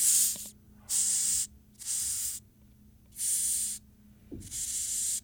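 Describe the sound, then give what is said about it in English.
A large insect, picked up by hand, hisses into the microphone in five loud, breathy bursts, each about half a second long, separated by short pauses, with a low steady hum and faint handling noises underneath. “It's going to hiss into the microphone?”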